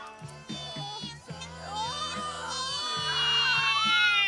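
Pained, wavering cries from a woman at the dentist rise and swell over a few seconds, growing louder toward the end, while a low droning hum pulses on and off underneath.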